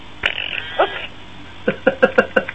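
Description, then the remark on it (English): A Tux Droid penguin robot toy's electronic fart noise as its charger plug is pulled out: a sharp click, a sputtering buzzy blurt, then a rapid series of five short raspy pops in an uneven rhythm, fairly loud, with no talking. “Listen to what happens when you pull the plug out of the Tux droid.”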